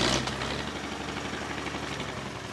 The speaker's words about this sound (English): As chainsaws do their work, earth movers create a makeshift trail used to drag out trunks.